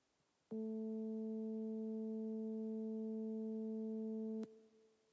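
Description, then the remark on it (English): Two steady pure tones an octave apart sound together as one loud, unwavering hum for about four seconds, switching on and off abruptly with faint clicks; no one speaks. “We're playing, how many frequencies are we playing? Two.”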